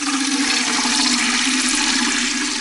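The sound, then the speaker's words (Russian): Water pours steadily from a barrel into a tin watering can, a loud, continuous rushing splash with a hollow ringing undertone, with no voices. “Вода лилась из бочки в жестяную лейку с таким славным шумом, будто это был маленький водопад.”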